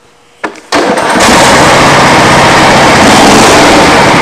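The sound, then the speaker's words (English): A small gasoline engine sputters briefly, then catches and roars into a loud, steady, rattling drone that continues without letup, the unmistakable sound of a lawnmower running. “That's just your standard old lawnmower.”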